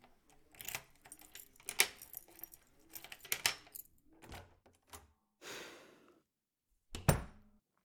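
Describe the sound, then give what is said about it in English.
Keys jangle and clink in a busy flurry of metallic rattles, followed by a brief rustle and one last sharp jingle near the end. “Got the keys?”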